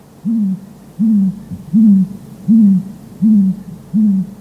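An owl hoots six times in a steady, evenly spaced rhythm, each low hoot clear and fairly loud against a quiet background with no one speaking.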